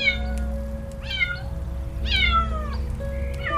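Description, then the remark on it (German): A white kitten meows three times in high, thin cries, spaced about a second apart, over a steady low hum of background noise. “Es hält direkt vor dem Jungen, der sogleich hoch zu seiner Katze deutet.”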